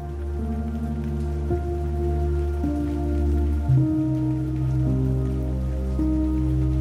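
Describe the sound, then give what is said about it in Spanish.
A steady, even patter of rain hisses in the background while soft, sustained musical chords shift slowly over it; no one speaks. “Puedes sentirla de lleno y, sin embargo, seguir caminando, permitiendo que la lluvia arrastre todo lo que no te corresponde.”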